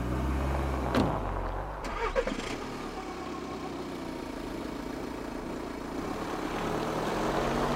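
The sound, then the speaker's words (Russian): A car engine rumbles steadily, with a couple of brief clunks early on and the low drone swelling slightly toward the end, as a car with its headlights on comes around a bend onto a road in the village of Beregchul at night. No one speaks. “И, наконец-то, из-за поворота на дорогу вылетают автомобильные фары и несутся прямо на нас.”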